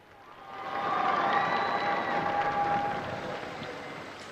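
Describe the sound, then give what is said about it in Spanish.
A large crowd of faithful in St. Peter's Square applauds steadily as Pope Francis appears at the window on Pentecost Sunday, a dense wash of clapping that swells in the first second and holds for several seconds, with faint cheering voices mixed in. “hay mucha más gente de lo habitual, y vemos ya como el Papa Francisco sale por la ventana, recibe el aplauso de los fieles, y es el Papa, el Santo Padre, le responde con un saludo a los allí congregados”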